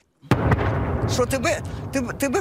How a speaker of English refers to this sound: described explosions through the night, sending shards of glass flying.